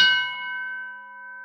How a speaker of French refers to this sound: Quand vont cesser ces foutus coups de cloche ?